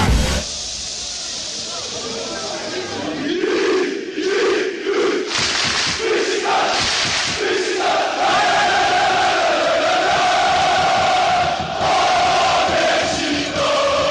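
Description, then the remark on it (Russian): A huge crowd of Beşiktaş football fans roars continuously at Vodafone Park in Istanbul. It is a dense wall of sound with chanting voices rising and falling, loud and sustained throughout, with rhythmic surges of massed shouting. “Так звучит стамбульский Водафон Парк.”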